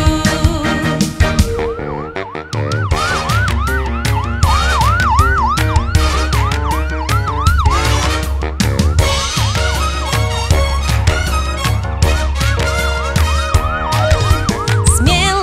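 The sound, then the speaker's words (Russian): A loud, rapidly rising-and-falling ambulance-style siren wail repeats throughout, riding over an upbeat musical backing with a steady thumping beat; no voices are heard. “Вау-вау-вау, сирены сообщаю. Вау-вау-вау, жизни я спасаю. Я скорая помощь, всем помогаю.”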